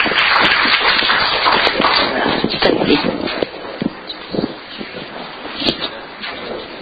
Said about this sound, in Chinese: 我们举手，我们拍手来欢迎神的仆人在我们的当中。